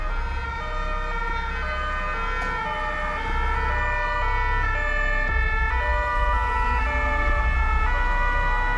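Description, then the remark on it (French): Several emergency vehicle sirens wail together on a boulevard in Paris over steady low traffic rumble, their overlapping tones sustained and loud throughout, with no one speaking. “Et je crois que les sons les plus difficiles, les plus douloureux et ceux qui m'ont poursuivi et même encore maintenant, c'est quand j'arrive sur le boulevard et qu'il y a toutes les sirènes.”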